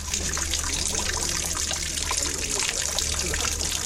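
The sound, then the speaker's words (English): A steady trickle of pure water dribbles continuously from the exhaust pipe of a Honda FCX experimental car, a constant bubbling splash that holds at an even level with no talking over it. “pure water.”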